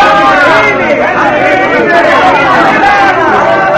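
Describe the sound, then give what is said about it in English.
A crowd, joined by a troupe of Commedia dell'arte players after their performance of The Great Magician, mingles in a courtyard, many voices overlapping into a steady, lively babble of chatter that stays loud and unbroken throughout, with no single speaker standing out. “The troupe of Commedia dell'arte players have finished their performance of The Great Magician and are now mingling with the crowd in the courtyard.”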